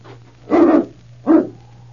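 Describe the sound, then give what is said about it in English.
King, the dog in Challenge of the Yukon, barks twice before people reach the door, a longer bark followed by a shorter one after a brief pause, fairly loud, with a steady low hum underneath and no talking. “Why, he was barking before they even got to the door.”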